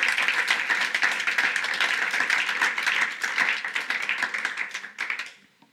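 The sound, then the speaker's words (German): A crowd breaks into sustained applause for God, a dense, steady wash of many hands clapping for about five seconds before quickly fading out. “Lass uns einen riesen Applaus geben.”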